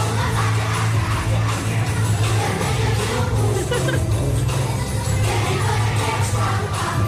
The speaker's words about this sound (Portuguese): recebemos aqui um vídeo da escola EB1 Miosotis no Porto, com a festa de Natal deles, em que os miúdos aparecem a cantar uma música que vai ser familiar. É, cantam os miúdos no palco e canta toda a gente na sala.